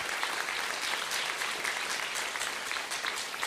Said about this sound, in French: Alors juste avant, je voudrais qu'on puisse les encourager et les applaudir pour tout le travail qu'ils font, s'il vous plaît.